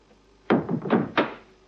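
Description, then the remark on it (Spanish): A gate and a door being shut by someone leaving: a quick series of three solid thunks with short ringing decays over about a second, with no voices. “Cierra la verja y la puerta.”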